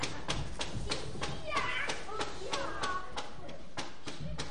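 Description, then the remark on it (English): Steady, evenly spaced knocks on a big wooden workshop door, about three per second, continue the whole time, with faint children's voices and playful background noise underneath. “Punchinello knocked on the big wooden door.”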